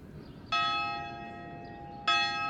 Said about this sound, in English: At San Quentin, count time starts with the ringing of a big old giant bell. That is a serious bell, and it's right in the courtyard.